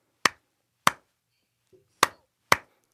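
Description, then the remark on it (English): Four sharp, loud hand claps in an uneven rhythm, with a long pause after the second, so the timing drifts slightly off the beat. A faint short murmur sits in the gap. “Well, like, I mean, I can hear your clapping.”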